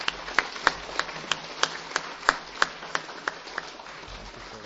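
Audience applause for a visiting British team: steady, evenly spaced claps from one person stand out over a softer wash of clapping, fading slightly toward the end. No one speaks.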